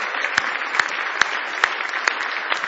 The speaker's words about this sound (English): But aren't you glad we've got it right now? Aren't you glad God's done something for you right now? Give Him a big hand clap of praise.